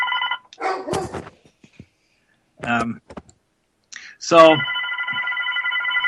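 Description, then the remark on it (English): A telephone at the Spirits World Liquor Store rings with a steady electronic trill during a live radio show broadcast from the store, cut short near the start and then sounding again loud and sustained at the end, with brief clatter and voices between the rings. “I think we've got the loudest radio show ever. Between dogs and phones.”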